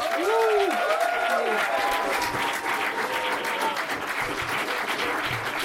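Steady, loud applause from an audience fills the whole clip, dense clapping with a few cheers and whoops rising over it early on.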